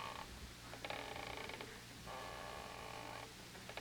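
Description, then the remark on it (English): A wooden rocking chair, Mrs. Davis's rocker, creaks in slow, drawn-out groans, roughly three long strained creaks in a steady back-and-forth rhythm over a low steady hum, with no talking. “I've got to exercise more. My bones are rusting. Oh, it's the rocker.”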